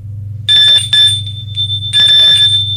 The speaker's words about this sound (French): on sonne à la porte de Guillaume. Il ouvre.